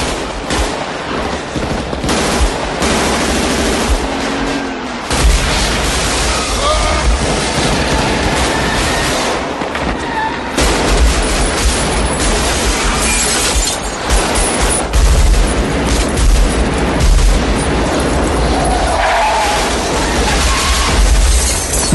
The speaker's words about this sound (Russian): Де Ниро, видя впереди полицейских, стреляет через лобовое стекло прямо из автомата